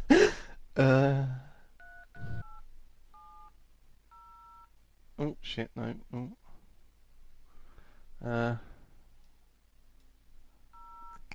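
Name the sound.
phone keypad tones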